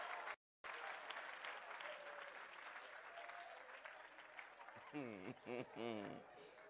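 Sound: audience applause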